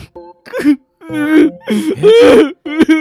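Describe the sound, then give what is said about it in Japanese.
A person cries and whimpers in several choked, wavering bursts separated by short gaps, the sobbing rising and falling in pitch with no other sound around it. “何お前泣いてんの。”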